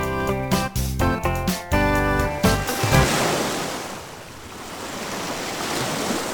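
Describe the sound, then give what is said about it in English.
A few seconds of bright, plucky music give way to loud ocean surf, a steady rushing wash of waves breaking on the shore with no voices. “Julia ran to the edge of the ocean.”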